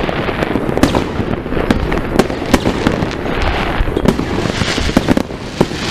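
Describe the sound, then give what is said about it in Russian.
Fireworks go off at night in a dense, continuous barrage, sharp bangs and crackles overlapping over a steady rumble of bursts, fairly loud throughout with no voices. “Должно быть видно только салюты, в принципе.”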